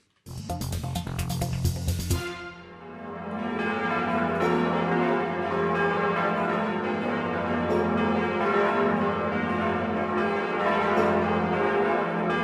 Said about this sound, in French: Sur la volée de cloches de Notre-Dame de Paris avant son incendie